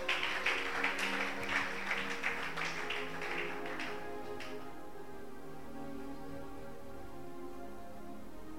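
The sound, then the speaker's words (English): An audience claps hands for the Lord during a sermon in a dense burst for about four seconds, then the applause stops abruptly, leaving a low sustained hum of background tones. “Clap your two hands for the Lord.”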